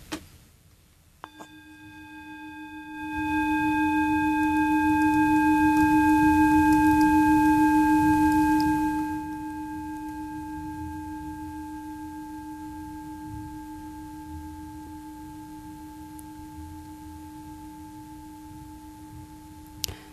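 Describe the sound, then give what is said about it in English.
A single bell is struck to close a mindfulness moment and rings with a steady, low tone and bright overtones, slowly fading over many seconds. A soft rushing noise swells briefly underneath mid-ring. No one speaks. “So we can end this with the sound of the bell, and hopefully everyone takes a moment to just be present today.”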